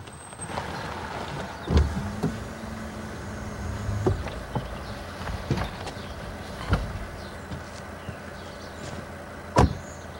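A taxi pulls up outside Struel Lodge, its engine rumbling steadily at low volume while a series of sharp clicks and thumps, like door and handle sounds, punctuate it; there is no talking.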